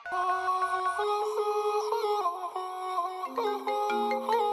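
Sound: telephone ringing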